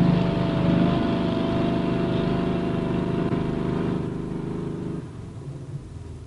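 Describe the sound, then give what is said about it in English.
A helicopter's steady, loud engine drone with a deep rotor rumble holds evenly, then the pitch and power drop away near the end as it sinks slowly through swirling snowflakes, buffeted by gusts of wind, and sets down gently outside a small stone cottage. “Buffeted by gusts of wind, the helicopter sinks slowly through a swirling curtain of snowflakes and sets itself down gently outside the small stone cottage.”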